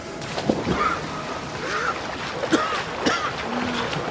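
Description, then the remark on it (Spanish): Rough ocean water surges and crashes in a steady, moderately loud wash, with a few sharper splashes breaking through the continuous roar. “pero hacia él vino una ola tan furiosa que lo hundió.”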